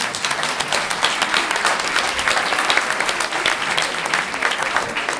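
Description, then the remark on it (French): A crowd applauds steadily for several seconds, a dense, even wash of many hands clapping at once with no single beat standing out, holding a constant loudness throughout. “Des applaudissements, s'il vous plaît.”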